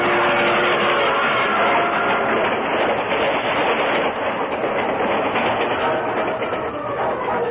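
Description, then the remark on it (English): A rushing train roars past, a loud, dense rumble and clatter that holds steady for several seconds with no voices. “The Lone Ranger picked his friend up bodily and took 3 quick steps to safety, scant yards before the rushing train went past.”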